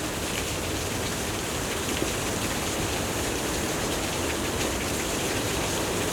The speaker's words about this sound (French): Et le son presque guttural d'une cascade balayée par le vent retentit.